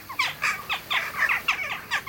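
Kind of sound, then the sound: bird, jackdaw calls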